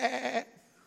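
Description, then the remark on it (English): A church audience lets out a loud, wavering "baa" in imitation of sheep, a single bleat lasting under half a second before fading to quiet. “Y'all are the sheep, go.”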